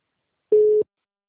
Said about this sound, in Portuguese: Não é, gente, que telefone é esse entrando aqui, gente, pra ligar?